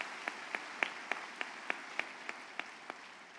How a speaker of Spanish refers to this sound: Si puedes dar un aplauso al Señor, dale nomás.